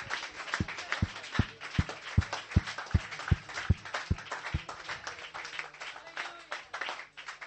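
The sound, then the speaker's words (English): A church audience, standing, claps its hands in a steady, even rhythm, about three claps per second, over a dense wash of scattered clapping and crowd noise. The beat fades out halfway through. “why don't you stand to your feet and clap your hands steht auf and be thankful.”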